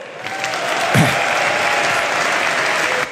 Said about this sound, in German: Merkst du den frenetischen Applaus? Ja, der holt sie ab. Das ist das, was dem CDU-Parteitag ein bisschen abgegangen ist, hat man auf diesem politischen Aschermittwoch der CSU gespürt.